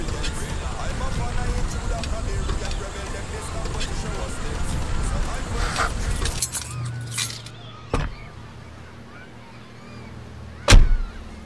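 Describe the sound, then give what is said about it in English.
A car rolls to a stop and is parked: steady engine and road rumble fade out after several seconds, leaving a low hum, a brief click, then a sharp door thunk near the end. “Hey, let me park this car.”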